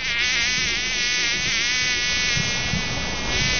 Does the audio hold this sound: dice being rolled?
no